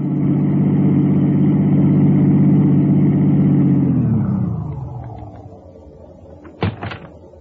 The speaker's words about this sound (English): As soon as I dropped my passengers, I turned the car around and headed back to Lerner's place as fast as I could.